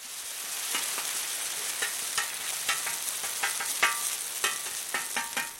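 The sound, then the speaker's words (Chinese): Steady crackling sizzle of buckwheat pancakes, made with buckwheat grown in Jinshan (金善), frying on a hot griddle at a market, with scattered sharper pops and spatters throughout, continuous, no voices. “用金善生产的荞麦煎的香醇的煎饼，用金善的玉米和红豆做的玉米包，都是绝对不能错过的。”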